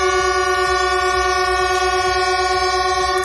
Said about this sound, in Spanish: Lo que sí han hecho ha sido un homenaje a su compañero fallecido, a Pablo, el maquinista de Alcorcón que conducía el Albia siniestrado. Lo hacían en la estación de Chamartín, haciendo sonar las bocinas de todos los trenes.